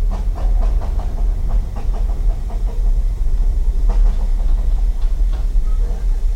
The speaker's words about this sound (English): I'm a director of this railway, the Dean Forest Railway, and also a chairman of the group that owns and operates the little rail cars that we're going to use today.